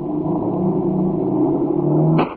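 A car engine accelerating as the car sets off after picking up a hitchhiker, a loud, steady low droning hum with a strong rumbling tone, holding for about two seconds before cutting off abruptly with a short higher burst. No one speaks.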